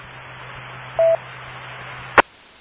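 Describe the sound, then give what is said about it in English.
A single short telephone keypad tone beeps as someone makes a quick phone call, over a steady background hiss and low hum, followed about a second later by a sharp click. No one speaks. “I gotta make a quick phone call.”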